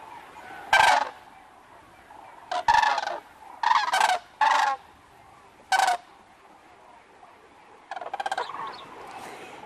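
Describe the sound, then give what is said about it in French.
Migrating common cranes give loud, rolling trumpet calls in irregular bursts, several overlapping at times, with a rapid stuttering series near the end and no voices. “Vous avez parlé des grues, allez, écoutons les cris cette fois-ci des grues cendrées.”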